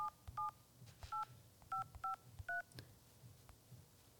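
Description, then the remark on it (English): A quick run of about six telephone keypad dialing tones as a call is placed, short crisp beeps in an uneven rhythm, fairly loud over quiet background hiss with no one talking. “Hang on, we're just ringing him now.”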